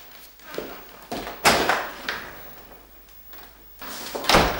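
A cup falls to the floor, producing a series of hard knocks and clattering bumps spread over a few seconds, moderately loud, with no one speaking.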